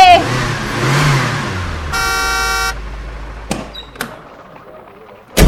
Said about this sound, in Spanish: ¡Miren! Llegó el carro de la galletita. ¡Vamos a ayudar a descargarla!